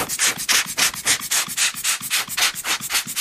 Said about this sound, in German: Deswegen haben wir auch gelernt, wie man mit Pinsel und kleinen Blasebalg umgeht und hier den ganzen Staub runternimmt von der Münze. Also als erstes kommt das Abpinseln der Oberfläche.